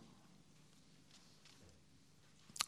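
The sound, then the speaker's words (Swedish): Pages of a Bible are leafed through to Jeremiah chapter 31: a couple of faint papery rustles, then one crisp, louder page flip at the end, with no talking. “Vi bläddrar till Jeremia 31.”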